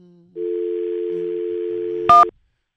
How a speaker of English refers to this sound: That's dialing humming, okay, by the way.